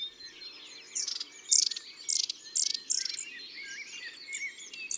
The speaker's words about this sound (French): Et tout en cherchant sa nourriture, chaque oiseau lance des petits cris pour garder le contact avec les autres. Et la bande se déplace d'arbre en arbre.